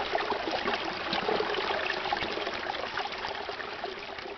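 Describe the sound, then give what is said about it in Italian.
A steady, continuous rush of running stream water, bright and bubbling, with a constant trickling texture and no pauses over a few seconds. No voices are heard. “Dai fianchi di ogni altura veniva il suono di acqua corrente, la musica di fonti invisibili.”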